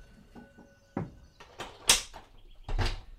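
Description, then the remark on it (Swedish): The back door of a garage is handled with a few clattering knocks, then slams shut with a sharp, loud bang followed by a heavier thud, with no voices. “Osman hinner inte säga något mer förrän dörren slår igen.”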